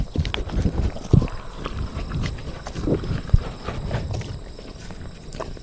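Horse hooves clip-clop in an uneven, shuffling rhythm on a hard floor in a barn, with a steady background hiss and no talking.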